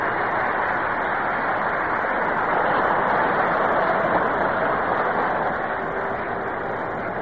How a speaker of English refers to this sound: The applause that you hear here at Yankee Stadium greets pitcher Don Newcomb as he walks up to be the first batter for Brooklyn in the 8th inning.